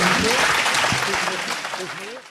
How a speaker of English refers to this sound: How about a hand of applause for all of them?